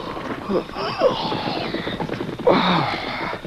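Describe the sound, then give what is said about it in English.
Hoofbeats of two riderless horses approaching a camp on a moonlit night clatter in a quick, steady galloping rhythm, with two brief higher-pitched, voice-like calls rising over the pounding partway through. “Hearing approaching hoofbeats, Dan yawned and sat up.”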